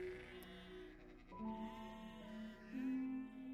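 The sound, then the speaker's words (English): Sheep of a town flock bleat continuously and fairly loudly as they are guided through town to their pen, several quavering calls overlapping and shifting pitch one after another, with no voices present. “Lycos arrived in town, trying to guide his sheep to their pen.”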